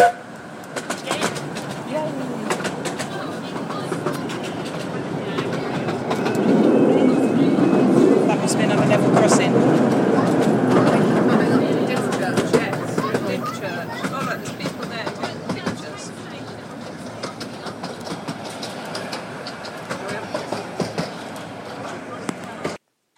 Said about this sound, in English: Was our trip on the Romney Hythe and Dymchurch Railway. We went from Hythe to, stopped at Dymchurch, as you heard, and then we carried on to New Romney